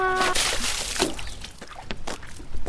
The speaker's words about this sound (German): Bitte können Sie uns helfen. Meine Schwester ist ins Wasser gefallen.